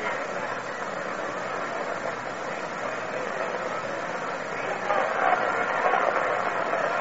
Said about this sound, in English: Two balls and two strikes. Another fine crowd on hand here today.